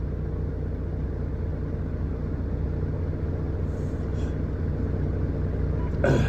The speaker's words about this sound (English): Shut the fuck up, truck. You know what? I want the motherfucking truck to shut up. Let the truck idle. Let it die.